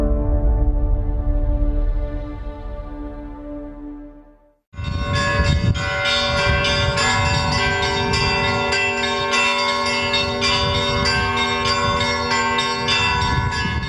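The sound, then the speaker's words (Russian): Church bells ring out loudly in a dense, continuous peal at a regional bell-ringers' festival in central Ryazan, Russia, with a deep low bell fading out before a full set of bells strikes up together and keeps clanging without pause. “В сердце Рязани прошел 5-й региональный фестиваль мастеров колокольного звона”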